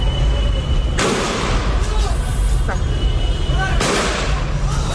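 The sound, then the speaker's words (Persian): Protesters in the city of Evaz, Fars province, Iran, chant slogans against the leader of the Islamic Republic in a loud, dense crowd roar that fills the whole stretch, with a couple of sharp, booming bangs cutting through the din partway in. “اینجا در شهر عوض، یکی دیگر از شهرهای استان فارس، معترضان علیه رهبر جمهوری اسلامی شعار سر دادند.”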